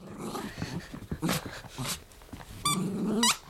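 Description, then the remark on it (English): A gray and white bearded Shih Tzu in Tokyo growls in short, rumbling bursts while playing with her favorite squeaky toy, broken by a couple of sharp, high squeaks from the rubber toy near the end. No one speaks. “This growling dog is actually very sweet. This is just how she plays with her favorite squeaky toy.”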